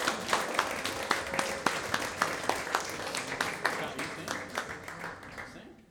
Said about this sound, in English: And finally, all of you, let's have a huge round of applause for all of our veterans. Thank you for your service.